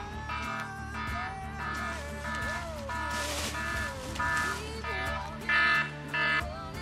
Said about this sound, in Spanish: Bueno, no era un Nuclear Meltdown, era simplemente la alarma del reloj, del móvil, perdón.